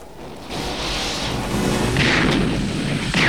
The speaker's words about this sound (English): Cops open fire on Jack's cronies.